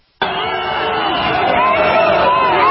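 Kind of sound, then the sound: crowd, crowd booing and chanting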